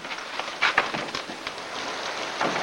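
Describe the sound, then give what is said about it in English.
Storm doors at the top of stairs are opened with a couple of quick clunks near the start, letting in the steady hiss of rain from a storm that continues throughout; no voices. “Nora stiffly climbs the stairs and opens the storm doors”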